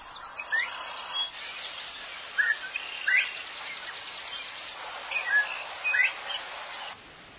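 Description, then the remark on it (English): A northern bobwhite quail whistles its rising calls a few times amid a busy chorus of other birds chirping and trilling, over a steady hiss. “All right, it sounded just like a few birds there, but no, in particular, there was one bird in there known as a Bob White.”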